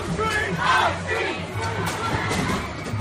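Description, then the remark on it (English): A large crowd shouts and yells together in a dense, agitated roar, voices rising and overlapping continuously, as fights break out between marchers at the Unite the Right rally, held to stop a Robert E. Lee statue being taken down, and protesters demonstrating against them. “Fights break out with protesters demonstrating against them.”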